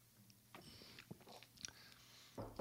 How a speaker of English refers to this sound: I'm gonna have a sip, we'll get started.